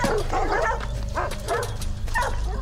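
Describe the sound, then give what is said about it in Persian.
Several dogs bark and yip in short, repeated bursts, with a few whimpering notes mixed in, loud over a steady low rumble of background noise. “سگا دارم برام واق میکنن، پس هنوز تو اوجم.”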